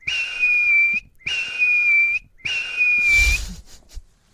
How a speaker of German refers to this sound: Allein dessen kleiner, zarter, luftiger Pfiff ist schon so süß.